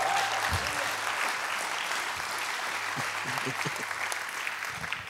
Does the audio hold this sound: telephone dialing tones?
no